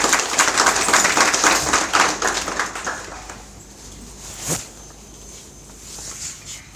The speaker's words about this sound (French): Dès que je l'ai contacté, il m'a dit oui, s'il vous plaît, j'aimerais que vous lui adressiez au moins ces applaudissements.